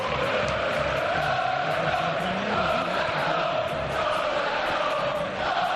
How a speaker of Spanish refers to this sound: desde el fondo sur se escuchan esos gritos